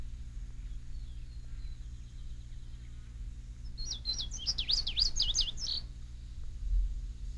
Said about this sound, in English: Not all birds are singers, but Indian Springs offers a bird sanctuary with a large variety of songbirds. For example, the one you are hearing now is the indigo bunting, a summertime visitor to Indian Springs.